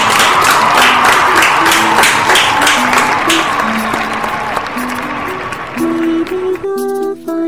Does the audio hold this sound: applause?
yes